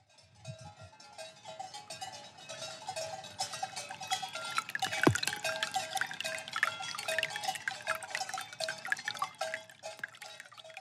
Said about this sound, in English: What, the tinkling water? Yeah. Yeah, it was lovely. It's like this big log and the water is flowing in and then flowing out the other end of the log.